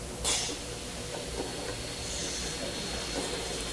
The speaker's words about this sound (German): Wir haben aber mit diesem DNS-Scan noch ganz andere Probleme, nämlich dass man ja überall also Haarreste oder Schuppen hinterlässt. Und auch dafür gibt es hier eine Lösung, die sieht nämlich so aus. Ein Mini-Staubsauger.